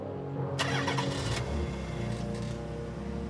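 car engine starting

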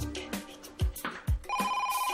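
telephone ringing

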